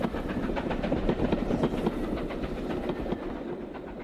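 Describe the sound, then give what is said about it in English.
A steam train with display windows rumbles past, its wheels beating a steady, rapid clickety-clack over the rails, loud and continuous before easing slightly at the end. “And even if it was only steaming by and all you could catch was the silhouette of the double-sized new Liberty Bell through the display window, they came out just to see that train whistle past.”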